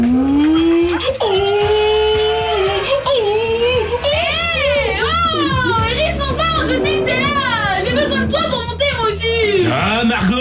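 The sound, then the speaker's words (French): A voice imitates an elephant trumpeting in loud, continuous wails that swoop up and down in pitch, with a steady low rumble underneath throughout. “Tu veux pas profiter de l'éléphant qui fait poète-poète là? Il est là, ça sera plus simple, non?”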